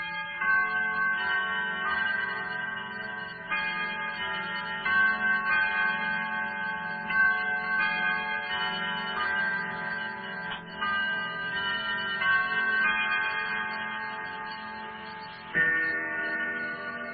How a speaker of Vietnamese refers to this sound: Từ phòng khách vọng vào tiếng gõ trầm buồn của những chiếc lắc đồng hồ.